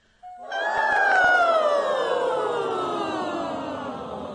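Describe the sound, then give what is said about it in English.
A single sustained vocal siren in a voice warm-up exercise, a sung glide starting medium high and sliding steadily downward over about four seconds, rich in harmonics and loud, with no talking. “And let's try a siren, high, sort of medium high, not the highest high. Medium high and down.”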